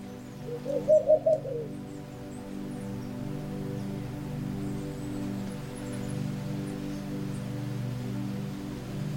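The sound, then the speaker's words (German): On a still night, a distant owl gives one short, soft hooting call near the start, then falls silent over a steady, low rumble of wind that continues to the end. “Nur das leise Flüstern des Windes und das entfernte Rufen einer Eule.”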